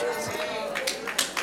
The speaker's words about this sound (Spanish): Ay, le gustó ahí, ¿verdad? Ay, aplaudieron ahí. Ahí sí le gustó.